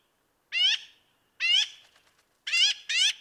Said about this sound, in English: There's something larger flying over there. Oh, a magpie. Big black and white bird with a long tail and a big loud voice.